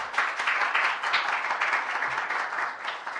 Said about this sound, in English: So why don't we have another round of applause for all three sets of presenters.